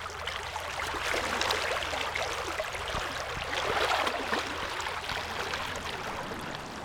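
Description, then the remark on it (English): Steady flowing water of Clear Creek in Fayetteville, which a Highway 112 bridge runs over, babbles and splashes continuously, a broad bright wash of sound with a faint low rumble underneath and no voices. “The sounds of traffic can be heard from below, but that doesn't distract from the flowing waters and green trees”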